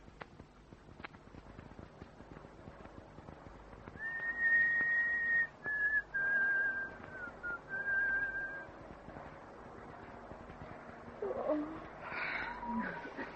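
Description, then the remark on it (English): A train whistle sounds as a steady, fairly high tone held for several seconds, broken by a few short gaps and dipping slightly in pitch, over a low rumbling background. “Another train.”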